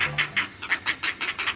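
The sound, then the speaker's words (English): Great blue heron nestlings calling at a nesting colony in a rapid, steady series of harsh, raspy clacks, about nine pulses in under two seconds, fairly loud with no voices. “Hear those chicks calling? They're nestlings at a great blue heron colony.”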